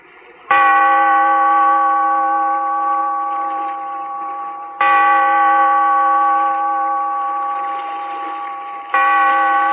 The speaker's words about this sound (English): Bellkeeper, toll the bell, so that all may know we are gathered again in the Weird Circle.